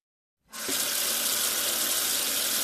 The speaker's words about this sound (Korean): 일어서서 주방으로 비틀거리며 다가가 보자 아는 바깥만큼이나 더웠다. 그녀는 수도꼭지를 튼 다음 얼굴을 씻으려고 허리를 굽혔다.